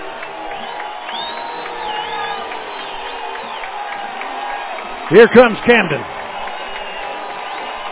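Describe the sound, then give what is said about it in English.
A dense stadium crowd at a football game roars steadily while an announcer talks, with a brief burst of louder shouting and whoops rising near the end as the crowd gets to its feet. “Crowd to its feet.”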